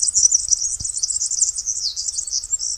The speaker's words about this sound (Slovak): No a zase na poliach, na lukách, takí prví navrátilci, ktorých je počuť, tak okrem tých škovránkov sú to kanáriky.